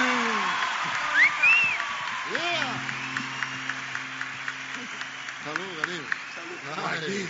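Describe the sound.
A crowd applauds in a steady, dense wash of clapping, with sharper individual claps standing out. Voices shout and call over it, and a brief whistle rises early on.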